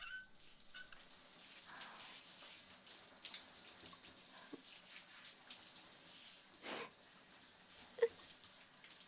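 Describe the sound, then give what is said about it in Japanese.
Steady hiss of running water pours continuously, like a shower spraying, with a few brief splashes and one sharp clink partway through; no voices are heard. “シャワー浴びないと。”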